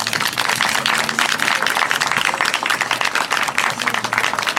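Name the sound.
audience applause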